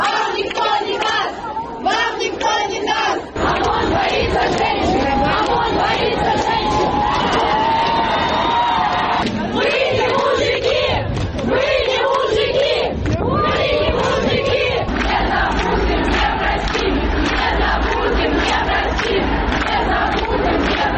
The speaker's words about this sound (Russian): Комментаторы особенно оценили первую из этих кричалок. Василий Гатов. В принципе, лозунг «вам никто не даст» способен переворачивать режимы и даже континенты.